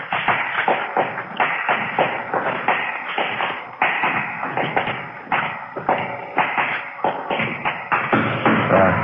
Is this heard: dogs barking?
no